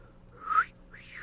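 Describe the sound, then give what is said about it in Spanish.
A breathy, faltering whistle: two short rising glides, the first brighter and louder, the second airier and fading, over a faint low hum. “Les voy a chiflar, fíjate.”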